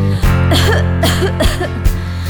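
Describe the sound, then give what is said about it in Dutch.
A series of harsh, raspy coughs, about four or five close together in a rough rhythm, loud, over a steady humming musical background. “Luister goed naar mij, naar mijn nare hoest.”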